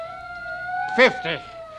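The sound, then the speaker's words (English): A police car siren wails in a steady, sustained high tone throughout as the police come in pursuit, with a brief burst of a man's voice speaking over it partway through. “That's the cops coming after you.”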